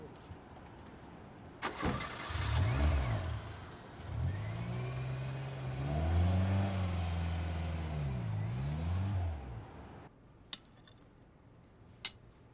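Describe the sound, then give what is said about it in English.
A car engine turns over with a sharp start, then revs up and down in several surging waves before cutting out, followed by a couple of faint clicks. “I'm gonna go bring my car as well.”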